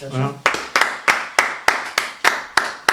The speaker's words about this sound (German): Du darfst ruhig klatschen.